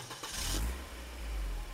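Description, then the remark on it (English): A rental car engine turns over with a short, hissy burst, then settles into a steady low rumble as the car pulls away, heading back to the airport. No one speaks. “I'm in my rental car and I'm heading back to the airport.”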